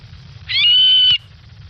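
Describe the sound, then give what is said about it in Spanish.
A single loud, shrill whistling call from a stone-curlew, held steady on a high pitch for about half a second and ending abruptly, over a low background rumble. “Señor Quintanilla, tenemos al alcaraván.”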